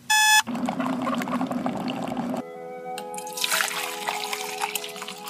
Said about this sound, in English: The dreaded sound of an alarm clock fills high schoolers' room every weekday morning.